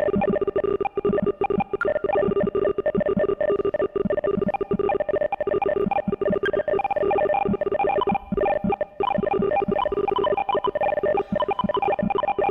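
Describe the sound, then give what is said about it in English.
A dense, continuous stream of electronic beeping tones at many different pitches, layered and overlapping like a busy slot machine or dialing keypad, steady and loud throughout with no voices; network data of thousands of people turned into sound, with higher tones for people farther out in the network. “Sounds like a Vegas slot machine.”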